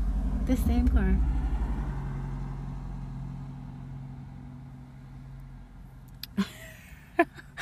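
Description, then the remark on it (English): A car rumbles past, its low engine drone loudest at the start and slowly fading away, with a few sharp clicks and knocks near the end. “It's the same car.”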